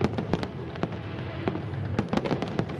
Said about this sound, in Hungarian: Akkor is szokott tűzijáték szólni.